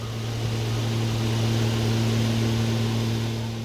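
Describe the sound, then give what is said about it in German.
A small propeller plane flown by Don Lucho takes off from Robinson Island and loops over the ocean; its engine drones steadily, with a low, buzzing hum and a constant rushing roar that hold an even loudness throughout, without voices. “Als Don Lucho nach dem Start eine Schleife fliegt und die Robinson-Insel wie ein großer grüner Berg inmitten des blauen Ozeans immer kleiner wird, greife ich noch einmal zu meinem Robinson-Buch.”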